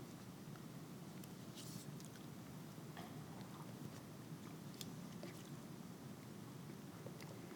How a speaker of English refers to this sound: I feel guilty about making you wait while I take a sip of water because my mouth is dry.